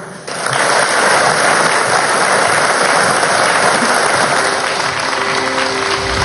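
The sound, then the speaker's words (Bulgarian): A crowd at a GERB election event in Bulgaria applauds Mr. Donchev and the candidates from the 23rd multi-member constituency, loudly and steadily, a dense wash of clapping that starts abruptly and holds at an even level for several seconds with no voices above it. “Аплодисменти отново за тях.”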